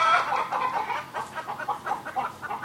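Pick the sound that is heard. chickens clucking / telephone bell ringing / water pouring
chickens clucking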